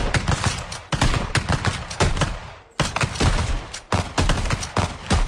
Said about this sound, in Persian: بعدش با تفنگامون تو میدان تیر شلیک می‌کردیم.